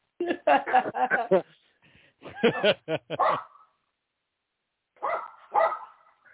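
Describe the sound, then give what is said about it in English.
A small dog yaps in three quick flurries of sharp, high-pitched barks, with short pauses between the bursts and no one talking over it. “That's like a very small dog.”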